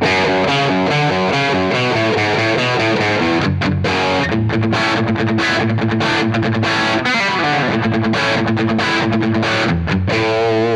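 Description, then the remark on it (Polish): A distorted electric guitar plays a well-known riff through an amp with the high treble boosted: loud repeated chugging phrases with brief stops, its tone harsh and bright with a fizzy top end. No one speaks. “Spróbujmy użyć znanego riffu. Dodajemy high treble.”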